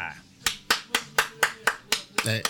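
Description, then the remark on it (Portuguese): A single person claps about nine times in a steady, brisk rhythm, each sharp clap loud and crisp, ending in a slightly quicker double clap. A faint low murmur runs underneath. “Não bato palmas a mim próprio.”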